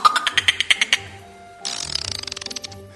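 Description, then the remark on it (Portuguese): A voice mimics a dolphin: about nine quick squeaky, whistle-like chirps, then a short pause and a fast rattling train of sharp clicks, fairly loud with no talking. “O golfinho.”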